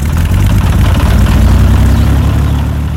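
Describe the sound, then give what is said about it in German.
A small propeller sport plane's engine rattles and drones loudly and steadily, with a throbbing low-pitched hum and no voices. “Auch wenn der knatternde Motor leichte Zweifel an der Sicherheit dieses Dates aufkommen lässt.”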